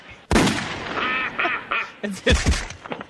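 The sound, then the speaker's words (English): A duck quacks several times in quick, raspy succession, loud, broken up by a few sharp, sudden bursts of noise at the start and near the end. “I think that was the duck.”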